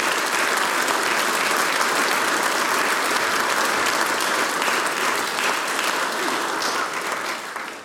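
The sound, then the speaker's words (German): Sustained applause from a large audience at a Styrian harmonica competition for a young man who has just played, a dense, steady clatter of many hands clapping, holding strong for several seconds before starting to taper off at the end. “Großen Applaus nochmal für den jungen Herrn, großartig gemacht.”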